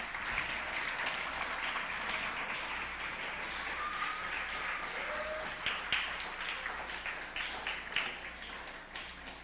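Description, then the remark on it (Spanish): An audience at a Christian preaching service applauds the Creator with steady, dense clapping from many hands that runs the whole way through, growing a little more uneven with sharper bursts toward the end, with a faint cry or whoop rising briefly midway. “Dale un aplauso al Creador, no te quedes allí.”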